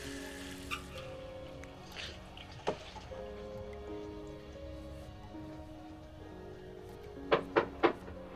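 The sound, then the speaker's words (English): A bathroom sink faucet runs in a steady, hissing stream while a teenage girl splashes water on her face, the sharp splashes breaking through: a single one early on, then three quick splashes in a row near the end. “She turns on the faucet and splashes water on her face.”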